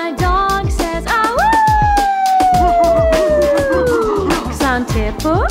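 A dog lets out one long howl that swoops up and then slowly sinks, sounding loud over the steady, thumping beat of a happy birthday song.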